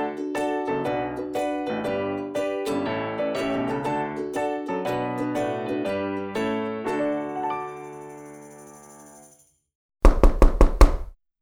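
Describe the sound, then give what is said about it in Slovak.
A melodic musical passage rings out and fades to silence, then a quick series of about five sharp knocks raps on a door. “Skúsim zaklopať a opýtam sa.”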